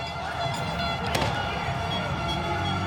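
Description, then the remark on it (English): A single sharp bang of an explosion cracks out about a second in at a street protest, cutting through a dense, continuous roar of a shouting crowd that carries on steadily before and after. “Then, a bang. An explosion.”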